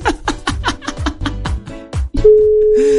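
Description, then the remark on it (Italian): After a quick run of rhythmic, percussive bursts, a steady telephone ringing tone starts up from a radio host's outgoing call to a listener, clear and fairly loud, holding to the end. “Altro squillo”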